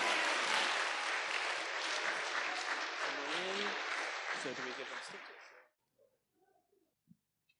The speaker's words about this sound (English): Okay, one big final round of applause for our primary winners.